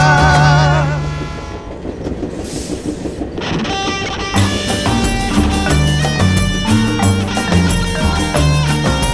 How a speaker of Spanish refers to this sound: Al maldito tren de la muerte, un endiablo en la caldera, grita, ruge y se retuerce.